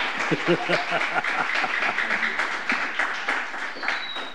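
A crowd applauds with dense, steady clapping that holds a fairly even level throughout, with a faint murmur of voices mixed underneath.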